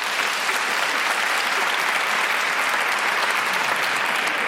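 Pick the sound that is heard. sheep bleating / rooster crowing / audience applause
audience applause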